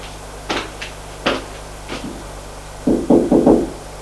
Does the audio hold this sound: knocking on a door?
yes